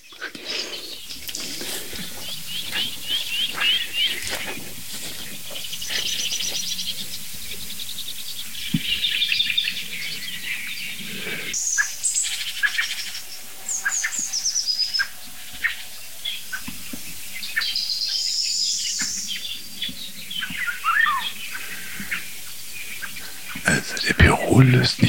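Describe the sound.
Soft, low calls of a blackbird flying in come through among scattered chirps from other birds outdoors, with faint whispering voices murmuring in the background.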